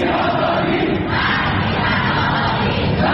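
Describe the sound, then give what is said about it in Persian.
A large crowd of protesters, in the protests against the Islamic Republic after Mahsa's death, shouts their demands together in a loud, unbroken roar, many voices blending into a dense wall of protest noise that holds steady for the whole few seconds. “معترضان از هر زمان و مکانی برای فریاد مطالباتشان استفاده کردند.”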